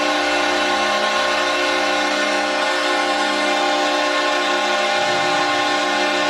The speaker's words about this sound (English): And that's a long horn for the fans here in the Saddle Dome.